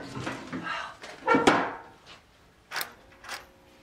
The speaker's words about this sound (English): She balls up the note and rummages through a workbench.